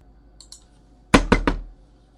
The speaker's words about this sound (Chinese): 进来。那我用力敲门干什么？